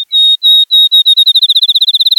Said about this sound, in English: Then, a field sparrow outsings them all.